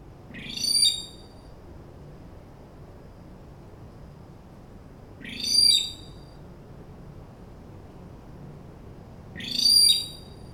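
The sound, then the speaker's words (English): A Lord Howe rail (Gallorallis sylvestris), a flightless rail of Lord Howe Island in the Tasman Sea, calls three times, each a loud, shrill burst of harsh, high-pitched notes lasting under a second, spaced several seconds apart over a steady low background hum. “Let's take a brief look at a conservation case study, that of the Lord Howe Rail, Gallorallis sylvestris.”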